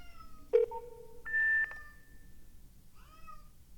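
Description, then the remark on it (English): A female cat, locked up and wanting to be let out, meows loudly and insistently, a drawn-out wavering cry followed after a pause by a shorter meow, with no one talking over it. “I have an extraordinarily loud cat still locked up in Kitty P prison. Maybe you can hear her.”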